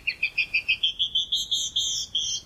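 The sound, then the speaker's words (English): A female canyon wren sings a run of about a dozen clear, high whistled notes, evenly spaced, creeping slightly upward in pitch and stretching longer toward the end, with no talking. “But many female birds do sing, even in colder climates, such as this canyon wren.”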